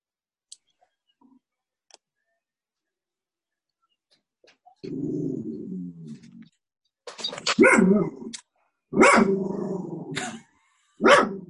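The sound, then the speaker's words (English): A dog lets out a low growl, then several loud barks in quick succession, with faint clicks in the quiet before. “I understand dog.”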